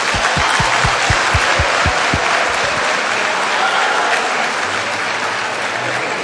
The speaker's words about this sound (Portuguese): Aleluia! Palmas para você, irmã.